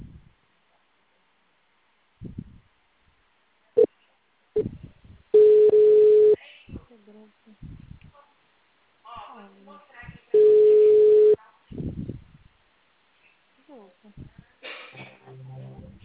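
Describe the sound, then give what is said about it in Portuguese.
Two loud, steady telephone busy tones, each lasting about a second and spaced several seconds apart, with bursts of speech and small noises in between. “mensagem gratuita de telefone ocupado. Aguarde alguns minutos para voltar a ligar.”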